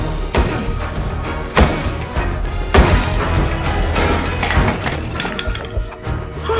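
A hammer smashes into a wall, breaking open a hole, with several heavy, irregular blows, each bursting into crunching, crumbling debris that crackles and rattles steadily between the strikes.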